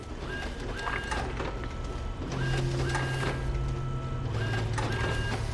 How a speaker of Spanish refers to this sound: En el instituto, Caro hace fotocopias del pasquín que quiso enviar por email.